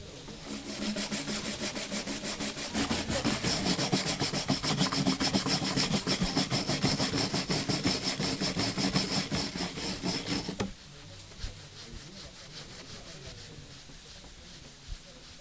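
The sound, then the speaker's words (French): Rapid, rhythmic scrubbing and rubbing of stones and bricks, loud and gritty with fast back-and-forth strokes, then it stops abruptly, leaving quiet background with a couple of faint clicks. “Il frotte les pierres, les astique, les récure, les briques.”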